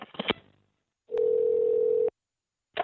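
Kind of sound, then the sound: signal or alarm, telephone dial tone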